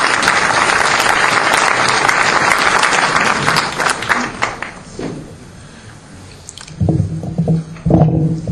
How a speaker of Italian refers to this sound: Un applauso